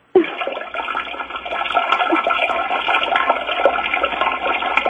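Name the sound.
toilet flushing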